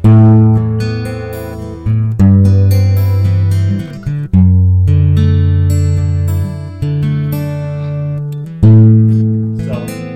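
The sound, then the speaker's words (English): An electric guitar played through a reverb pedal and a chorus pedal plays a few loud, ringing chords, each left to sustain and shimmer for a couple of seconds before the next is struck. No one speaks. “Now let me kick the chorus in.”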